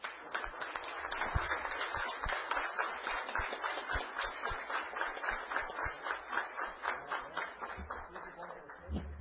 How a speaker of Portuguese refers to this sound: peço uma salva de palmas para a nossa igreja Assembleia de Deus.